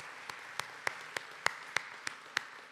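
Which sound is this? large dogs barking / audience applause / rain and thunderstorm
audience applause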